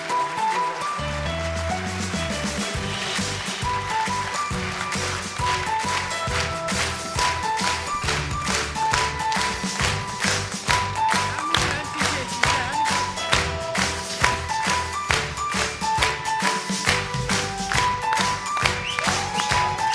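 An audience breaks into steady, sustained applause for a person called up to represent job seekers who started from zero, a dense crackle of many hands clapping that keeps an even loudness throughout, with faint tonal sounds underneath.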